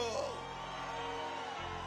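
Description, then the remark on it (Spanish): A church audience shouts and whoops together in a sustained, joyful roar of jubilation, blending into one dense wash of cheering for a couple of seconds. “¿Alguien puede dar un grito de júbilo?”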